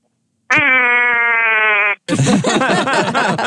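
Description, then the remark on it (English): A single long duck call held steady for about a second and a half, a loud, buzzy, reedy tone with an unchanging pitch, made in front of other customers, followed immediately by loud, noisy laughter and chatter, including from a group of about six. “Make one more duck call for us. Yeah, real long.”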